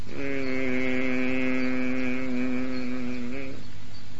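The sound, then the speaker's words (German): A person hums one steady, sustained low note for about three seconds, clear, imitating the humming of a caterpillar as it transforms into a butterfly, then falls silent. “Die fängt an zu summen an irgendeiner Stufe.”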